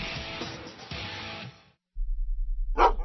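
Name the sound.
dog barking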